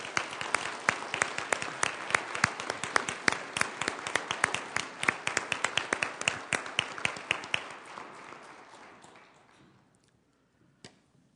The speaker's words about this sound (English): Celebration. Let's do a mini celebration. I want you to celebrate and applaud together what God has done in these lives.